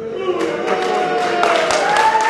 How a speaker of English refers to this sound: The audience erupts in a mixture of boos and cheers. It's a far different crowd than at town meetings Webster held earlier in the year, where the Tea Party had a visible and vocal presence.